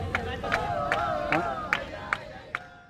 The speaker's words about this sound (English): After these people clapping and dancing in the background move on, we'll talk to him about why he sticks with it and why he remains hopeful.